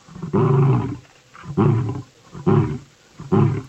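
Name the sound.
lion roaring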